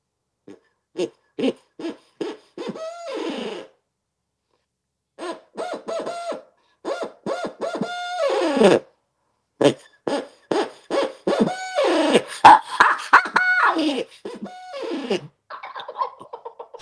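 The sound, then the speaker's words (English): A handheld owl locator call blown in rhythmic bursts, producing a series of loud hooting notes with pauses between phrases, imitating an owl's cadence; no talking. “I also carry my locator calls. This is our owl call.”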